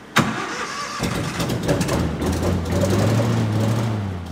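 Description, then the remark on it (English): The engine of a small black and red two-seater recreational hovercraft cranks with a sharp jolt inside a hovercraft factory, catches after about a second, then runs loud, its droning pitch climbing steadily as it revs up. No one speaks. “These are small hovercrafts that are used for recreation, sometimes for search and rescue. This one is a black and red two-seater.”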